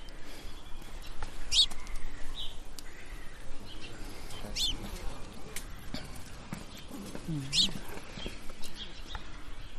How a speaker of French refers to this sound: Donc là, il y a un moineau, le tchic tchic. Voilà, c'est des moineaux domestiques. Alors, c'est une espèce très grégaire qui vit en groupe.